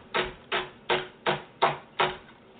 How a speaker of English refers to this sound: But what I'm going to do first is start off with some onions. And I'm just going to dice the onions up nice and easy. Like I have, I'm using one white onion.